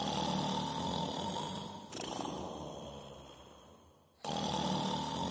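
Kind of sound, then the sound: human body sound, loud snoring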